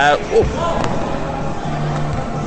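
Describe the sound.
A tennis ball thuds against a hard floor a couple of times in quick succession as it is picked up during a cardio tennis session, with muffled voices and room noise continuing underneath.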